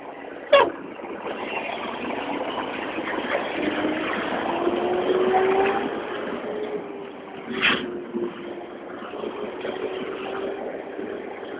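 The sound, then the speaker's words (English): A heavy garbage truck engine drones steadily, its low rumble slowly shifting in pitch as it rolls past, with a couple of sharp mechanical clanks breaking through. “Trash truck.”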